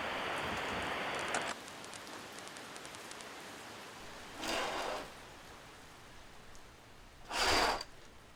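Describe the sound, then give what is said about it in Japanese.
Rain falls steadily as a soft, crackling hiss, heavier and louder for the first second or so, with two brief whooshing bursts rising above it later on; no one speaks. “明日も雨なんだ。一週間か。じゃあ止まないね、これ。”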